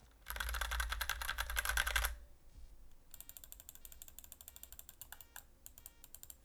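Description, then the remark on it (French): Rapid, dense mechanical clicking, fairly loud, of a computer mouse, then a pause and a steadier run of keyboard typing with scattered mouse clicks mixed in, as keyboard and mouse are used together during a microphone test. No one speaks. “Je vais maintenant faire un test de l'utilisation du clavier et de la souris en même temps pour que vous puissiez voir les nuisances possibles avec ce mode.”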